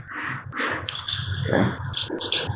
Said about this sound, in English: And every time the dogs bark, she stops and looks in that general direction.